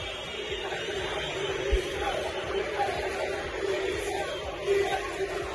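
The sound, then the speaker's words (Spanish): A large crowd at Sevilla's Sánchez Pizjuán stadium chants and shouts "directiva dimisión" in protest against the club board and president Pepe Castro, a dense, steady roar of many voices, with a few louder surges rising out of the din. “Se escucharon gritos de directiva dimisión.”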